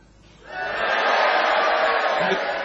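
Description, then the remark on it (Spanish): A crowd of island inhabitants shouting and yelling together, swelling up after a quiet start into a loud, sustained, chaotic clamor that continues to the end. “Está llena de habitantes. Sí, pero hay solo habitantes, o sea, más... ¿Y qué gritan?”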